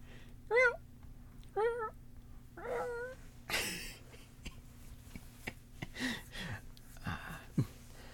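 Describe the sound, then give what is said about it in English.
A person imitates a cat with three short, rising-and-falling meows about a second apart, followed by breathy, hissy exhales and faint throaty noises. “Oh, that wasn't a good meow.”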